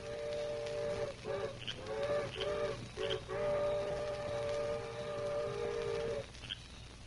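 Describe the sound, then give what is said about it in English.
An eastbound train's whistle sounds in a few short blasts, then holds one long, steady, reedy tone for about three seconds before cutting off. Low rumbling noise sits underneath, and no one speaks. “There go eastbound train now, Dan.”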